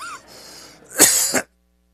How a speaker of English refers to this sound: Thinking when I took a drink before, boy, it would be terrible if I started coughing and choking after taking a drink. Shouldn't have thought that.